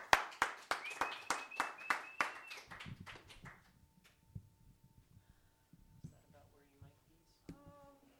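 A round of audience applause opens with loud, evenly spaced rhythmic claps, then thins out and fades after about three seconds as someone begins speaking.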